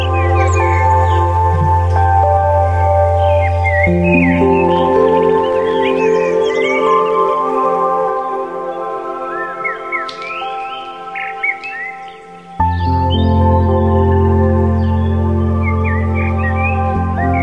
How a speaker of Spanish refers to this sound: Suena allá lejos el suspiro del agua de un río, unos pájaros, un gallo, unas risas. Nace un nuevo día.